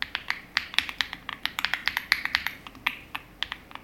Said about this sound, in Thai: ทุกคนคิดว่าซื้อคีย์บอร์ดตัวละ 5,000 แล้วได้เสียงพิมพ์แบบนี้คุ้มไหมคะ